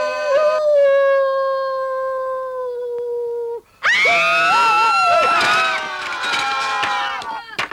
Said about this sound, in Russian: Совсем волку стал не втерпел. А теперь точно спою. Ну и запел. Завыл вернее.